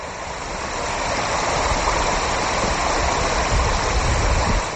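Steady rushing of the Ibar River flowing through the town of Mitrovica, Kosovo, a constant full, hissing roar with no pauses and no voices.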